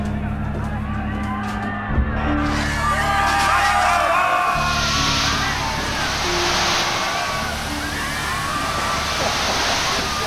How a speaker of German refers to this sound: Was machen die mit den Schläuchen? Neue Taktik. Feuerwehrschläuche an Hydranten und dann volles Rohr Wasser auf die roten Drecksäcke.